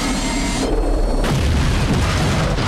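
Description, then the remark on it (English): A massive explosion's shockwave roars through a hospital and across a city, a sustained, loud rumbling blast with deep booming low end and a wash of hissing, crackling debris noise throughout. “The shockwave of an almighty explosion rips through a hospital and across the city in seconds.”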